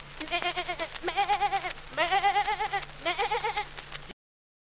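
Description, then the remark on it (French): A human voice imitates a goat, letting out four quavering, vibrato-laden bleats one after another, fairly loud, with nothing else heard. “Une chèvre qui porte ses cornes elle-même.”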